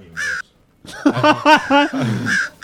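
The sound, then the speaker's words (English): A crow cawing sound effect played from a sampler: one harsh caw, a brief pause, then a quick run of several loud caws in a choppy rhythm. “Crow works too. Crows work too.”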